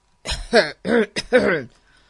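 A man clears his throat in a quick series of four rough, voiced bursts, fairly loud, followed by silence.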